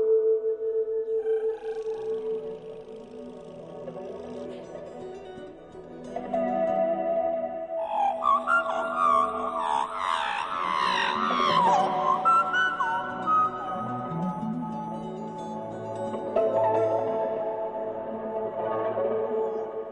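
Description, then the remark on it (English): A human voice imitates a magpie's song with warbling, fluting phrases, rapid pitch swoops and chortling trills. The notes are busiest and highest in the middle, over a steady lower hum. “So how did you come to sing like a magpie?”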